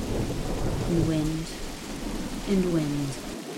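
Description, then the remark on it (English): Steady heavy rain hisses under a deep rumble of thunder, with gusting wind that twice rises into a brief, moaning wail. The storm stays dense throughout. “A flash of lightning illuminating the bare trees that look like looming monsters in shadow.”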